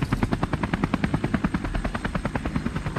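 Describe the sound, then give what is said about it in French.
A helicopter flies by, its rotor thudding in a fast, steady rhythm over a low engine drone, loud and continuous with no voices. “Vous voulez piloter un hélicoptère?”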